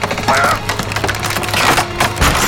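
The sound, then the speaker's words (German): A loud, sustained crash of splintering wood as a wooden door is smashed open, with cracking and breaking continuing for over two seconds and a heavy thud near the end. “Die Tür muss erst noch gebaut werden, die mir widersteht.”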